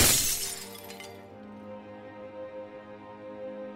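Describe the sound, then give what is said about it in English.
A glass whiskey decanter smashes against a painting in one sharp, bright crash, followed by lingering ringing tones of shattered glass that slowly fade. No one speaks. “You accidentally smashed that whiskey decanter against that painting of your dead wife.”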